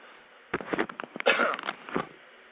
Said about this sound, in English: Okay. I don't know if I hit the right button on that. Okay. I didn't hit the right button, so you got to hear me cough.